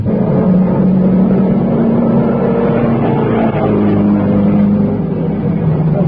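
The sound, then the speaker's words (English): Race car engines roar loudly and continuously, their droning pitch shifting slightly as they accelerate, with no voices over the steady, muffled engine noise. “off again. I think it's the elk. Little elk, huh? And the other ammo car that was in the pits.”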